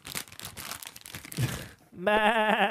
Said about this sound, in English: But so I need a better rustling sound effect. Hang on. I think I got it. Yeah. Sheep rustling.